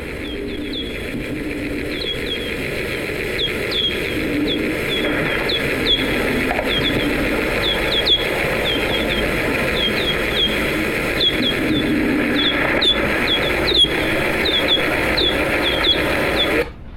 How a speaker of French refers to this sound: Alors on entend les chauves-souris qui dominent, et derrière un grésillement qui est dû à des insectes. Personnellement, je m'intéresse aux chauves-souris. Je considère les orthoptères qui font du vacarme derrière comme des parasites.